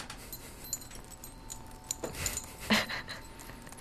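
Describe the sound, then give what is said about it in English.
Metal zippers on a sweater jingle and rattle as it is shaken by hand, a short cluster of soft clinks and rustles midway through, fairly quiet, with no voices. “Far too many zippers zipped on this clothing device. Chingling, not by the wind, by my hands.”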